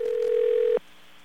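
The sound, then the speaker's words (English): A steady telephone dial tone hums loudly for under a second as a call is placed, then cuts off abruptly, leaving only faint background hiss. No voices are present. “Let's call that number.”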